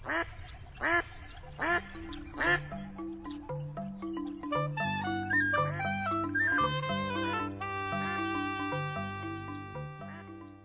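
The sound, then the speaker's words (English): A few squawky, duck-like quacking bursts, seemingly a voice imitating a Hollywood cartoon duck, sound in the first seconds before a bright instrumental music passage takes over. “The fact that birds have far fewer taste buds than humans doesn't necessarily mean their sense of taste is crude, as one Hollywood duck might put it.”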